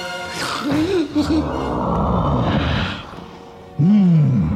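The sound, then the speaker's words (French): A monstrous beast roars as it bursts in: a loud, guttural roar rumbles for several seconds, raspy and sustained, then breaks off before a second deep, growling roar bursts out at the end. “Soudain, la porte du salon s'ouvrit violemment et une bête monstrueuse surgit en rugissant.”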